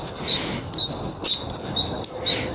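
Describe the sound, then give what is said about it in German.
Repeated short high-pitched chirps and whistles from birds sound throughout, fairly faint, over a steady background hiss with no talking. “Das singen die Vögel.”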